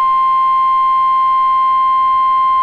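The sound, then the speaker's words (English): A weather radio alert tone for a National Weather Service Omaha severe thunderstorm warning in southwestern Iowa sounds as one loud, steady, unbroken beep, a pure high pitch holding level for a few seconds with no voices over it. “I don't need to hear the beep.”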